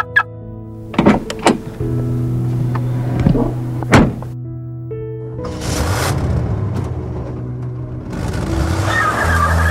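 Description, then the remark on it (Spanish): A car starts off with a few sharp clunks and clicks over a steady engine hum, then a broad rush of engine and road noise builds as it drives away, moderately loud, with no talking. “Oye, por cierto, no traje mi carro. ¿Crees que me puedas dar un aventón a mi casa?”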